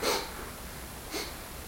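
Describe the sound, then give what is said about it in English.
A voice imitates sniffling with two short, airy sniffs about a second apart, fairly quiet, with no talking around them. “So, you know, you're sitting on the cushion and somebody is, you know, basically like sniffling.”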